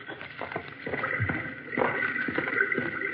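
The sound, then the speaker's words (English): Running water of a small, swiftly flowing underground river rushes in a steady, hissing stream, broken by irregular soft splashes and gurgles that grow slightly louder partway through. No one speaks. “Oh, I think I hear running water.”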